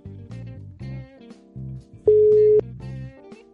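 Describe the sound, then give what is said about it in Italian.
Electronic telephone ringing tones as a call is placed: a run of short, buzzy beeps in a steady pattern, then one longer, louder held tone before the beeping resumes. No voices are heard. “Vabbè, ce lo facciamo dire da lui, io lo chiamo. È un artista. Eh sì. Drin, squilla.”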